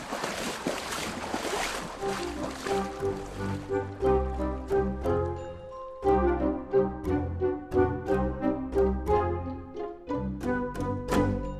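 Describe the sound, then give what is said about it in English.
Rushing river water splashes loudly for a few seconds during a river crossing, then gives way to a rhythmic musical passage with plucked, bell-like notes that carries on to the end. “Let's just get across the river.”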